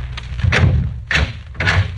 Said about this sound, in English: As he walked, he looked carefully at each closed door he passed. Then, on reaching the end of the corridor, he stopped and opened the door.